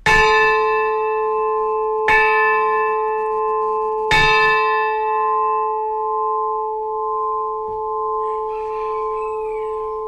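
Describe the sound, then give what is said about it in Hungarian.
A church bell tolls three times, strikes about two seconds apart, each ringing out with a long, sustained hum that lingers and slowly fades, loud with no voices. “utánunk marad, hogy több generációknál, utódunknál készítünk valamit, ami itt fog szólni nekik.”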